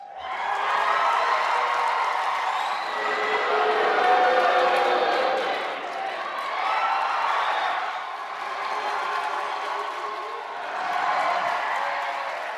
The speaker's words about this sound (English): And it was Battle of the Fans, not Battle of the Bands, at the Brooklyn Navy Yard last night. Can you pick a winner in the Bernie versus Hillary supporters shout out from that debate?